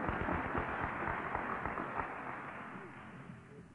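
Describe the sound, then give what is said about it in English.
An audience applauds, a dense, crackling wash of many hands clapping at once that holds steady for a few seconds before easing off slightly toward the end. “Now you can clap if you want to.”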